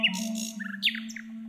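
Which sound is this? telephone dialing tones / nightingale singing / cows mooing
nightingale singing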